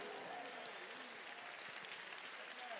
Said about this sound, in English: In the name of Jesus Christ, receive that blessing. Clap your hands. Let the Lord know. I receive what your word says.